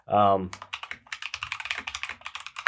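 After a short voiced sound at the start, a rapid, steady run of clacks from a home-built mechanical keyboard follows, dozens of crisp key strikes typed in quick succession.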